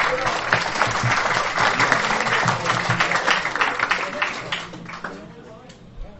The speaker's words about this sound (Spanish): Y pedimos un fuerte aplauso para recibir su participación.